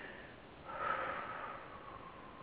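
One deliberate deep, heavy breath, a breathy rush that swells and slowly fades, with no talking.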